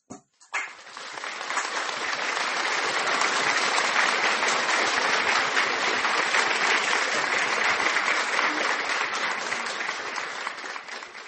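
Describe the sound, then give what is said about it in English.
A large church audience applauds for the Holy Ghost, dense clapping filling the room at a steady, loud level for about ten seconds after a brief pause at the start. “Ma soeur, mon frère, applaud for the Holy Ghost. Applaud, applaud, applaud pour le Saint-Esprit.”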